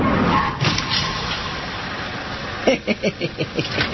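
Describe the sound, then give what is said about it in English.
A car engine hums steadily as the car pulls in to park, then a sudden crunching impact hits as it strikes a parking column, followed by a quick series of rattling, clunking bursts. “Oh, this one's about to park. Watch. I crush him like tiny clown car.”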